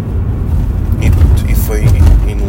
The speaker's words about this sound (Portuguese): Então, comecei assim a ver carros, pronto, e foi aí que eu adquiri este 308, que agora estou a conduzir.